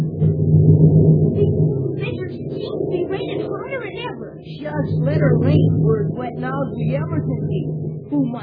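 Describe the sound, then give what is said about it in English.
A deep, rolling rumble of thunder swells and lingers for several seconds, loud, with a steady wash of heavy pouring rain and scattered brighter crackles on top, on a dark night. “It's still pouring rain, and the night's mighty dark. Just listen to that thunder.”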